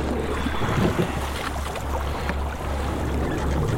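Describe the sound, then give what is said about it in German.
A rowing boat without a rudder moves on a straight course through calm, mirror-smooth sea in sunshine and a light breeze, with a steady low rumble, soft lapping and faint splashes and creaks, while wind brushes the microphone throughout. No one speaks. “Die See so ruhig wie unser Schlag.”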